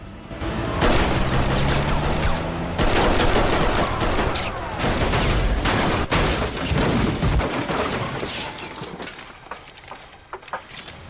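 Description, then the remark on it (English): Loud pistol gunfire cracks out in rapid bursts over a dense roar at a refinery, as a man ambushes a speeding black car, with heavy booming impacts as the car crashes, all continuous for about eleven seconds with no voices. “Jack puts a new clip into his pistol, checks that the driver of the crashed car is dead, and then prowls away.”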